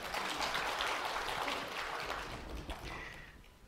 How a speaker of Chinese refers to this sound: OK， 俾啲掌声鼓励啊！